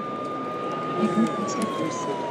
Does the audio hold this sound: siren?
yes